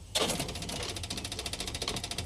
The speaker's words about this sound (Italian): Sì, è l'avviamento. È di certo il motorino d'avviamento.